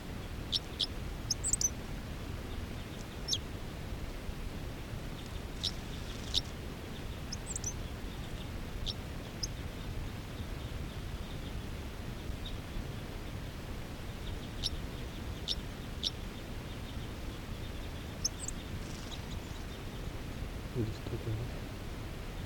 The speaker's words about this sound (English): Third recording is a wild male who just gave a song phrase. Song by the male. A lot of the other wild birds are calling.